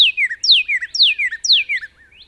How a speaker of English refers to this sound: So wherever you are, you're likely to hear the cheer, cheer, cheer of the brilliant red cardinal.